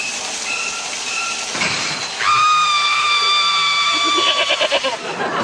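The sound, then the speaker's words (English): A nanny goat bleats: a faint, short call first, then a loud, drawn-out nasal bleat that breaks into a quavering tremble near the end, with no talking. “And for the kiddies, you can't go past our new pal, Jeff the serial-killing nanny goat.”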